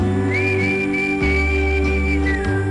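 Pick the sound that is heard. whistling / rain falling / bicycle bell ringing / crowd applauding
whistling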